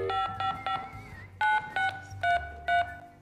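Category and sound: signal or alarm, telephone dialing tones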